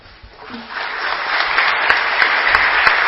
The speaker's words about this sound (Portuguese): Da minha parte, fica o aplauso para todos vocês.